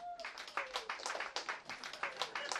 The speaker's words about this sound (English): Round of applause if you are divorced.